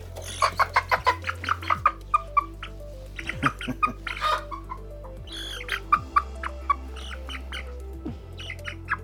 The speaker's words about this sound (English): And as you can see, the chickens are getting big, real big, and they're just about ready in a couple of weeks to get out to their new place, which is in the process of being built right now.